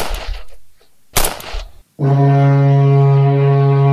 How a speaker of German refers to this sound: Da muss ich im Messgerät einfach anders damit umgehen, wie beispielsweise mit einem Nebelhorn, das sich natürlich völlig anders anhört, wie eben dieser vergleichsweise Schuss.